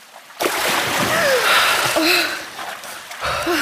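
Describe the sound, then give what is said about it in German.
Two swimmers briefly break the surface with a burst of splashing and sloshing water, continuing for a few seconds, with short gasping breaths mixed in after a brief quiet start. “Dort angekommen, tauchen beide kurz auf.”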